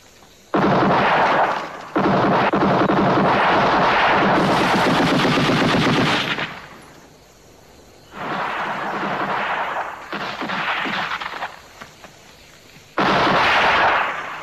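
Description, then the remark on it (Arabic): Sustained bursts of automatic gunfire come in several long, loud volleys, rapid cracking shots blurring into a dense roar, separated by brief lulls with quieter scattered shots. “لا تطلقوا النار، انبطحوا، قلت لكم لا تطلقوا النار.”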